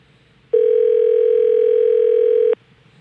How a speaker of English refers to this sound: There's a call going through right now. I got a good one. Okay, this is exciting. We want to be very quiet for the dial tone.